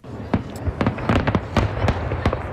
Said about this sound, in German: Donnert hat es gestern beim Feuerwerk, aber nicht so fest wie auch schon.